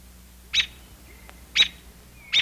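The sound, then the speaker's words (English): A robin sings in the morning, three short, high chirps, each a bright burst spaced about a second apart, with faint whistles between them over a low steady hum. “Our morning songster is, of course, the robin, my very favorite bird.”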